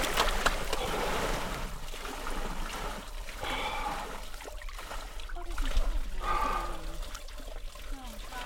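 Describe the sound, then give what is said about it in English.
Water sloshes and splashes steadily as a man climbs all the way into a tub of icy water outside a sauna on a farm in Lafarge, with churning surges throughout and a few vocal exclamations mixed in. “climb all the way into this tub of icy water, … shows us how it's done”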